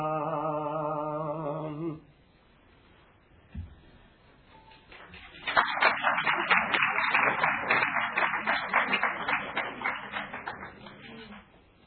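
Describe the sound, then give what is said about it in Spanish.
A sung or chanted voice ends, followed by a short pause and a single thump, then an audience breaks into steady applause: dense clapping that swells quickly and slowly tapers off. “No me aplaudan.”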